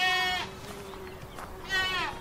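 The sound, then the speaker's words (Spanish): Two wavering bleats from one sheep and two lambs, one at the start and another near the end, loud, with a steady low hum and faint background between them. “En cambio, hay una oveja y dos corderitos.”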